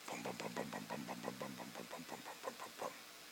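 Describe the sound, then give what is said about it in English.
A person's voice imitates a Gran Torino with a big engine, glass packs, headers and dual tailpipes cruising along the road in front of a church, making a low, steady rumble with a quick regular pulse for about three seconds, fairly loud, with no other sounds. “And you can hear the power in that engine.”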